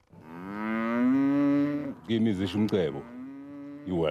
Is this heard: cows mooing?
yes